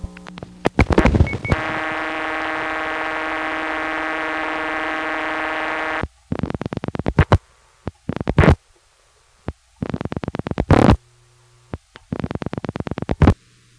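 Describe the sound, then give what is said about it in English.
A buzzy, harmonic telephone ring tone holds steady for several seconds, then gives way to bursts of rapid clicking pulses separated by short silences, as a vacant number rings through to the intercept line of the State House office code 828 in Montpelier, Vermont. “On the second play of the recording, you can hear a vacant number ringing into the intercept line.”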